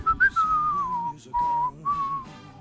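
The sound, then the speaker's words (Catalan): A person whistles a short western-style melody evoking Clint Eastwood films, with a bright sliding opening note followed by two sustained phrases, clear with no talking. “Amb el xiulador i pensant en Clint Eastwood,”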